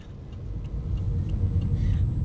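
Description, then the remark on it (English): Steady low rumble of a car moving along Olifantsfontein Road, about to join the highway, heard from inside the cabin, with a few faint light ticks over the continuous engine and tire drone; no one speaks. “All right, we are at Olifantsfontein Road, and we are about to jump on the highway.”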